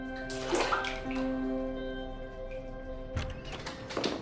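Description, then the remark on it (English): Water sloshes and splashes in a bathtub as a woman still wearing a black lace dress slides down into it and leans back, with gentle bursts of movement over a soft, sustained musical background. “Sliding into the water, she leans back, looking around at the flowers and flickering candles.”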